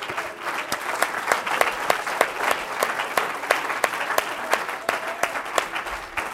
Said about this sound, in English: Let's give the Lord a great big hand clap of praise.